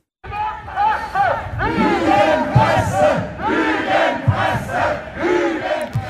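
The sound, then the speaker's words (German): A crowd of a few hundred protesters, radical vaccine opponents, Querdenker and Covid deniers, in the evening in front of the ZDF capital studio in Berlin, chants and shouts together in loud, rhythmic bursts, many voices rising and falling in unison with scattered yells and sharp thumps throughout. “Soweit ein paar hundert Demonstrierende gestern Abend in Berlin.”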